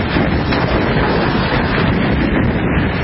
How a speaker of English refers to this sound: The storm washed homes into the ocean, destroyed other homes and structures, and knocked out power for hundreds of thousands of people. This is what it sounded like with the storm hitting Charlottetown, Prince Edward Island.